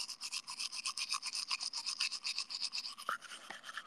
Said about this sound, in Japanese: 歯磨き助かる。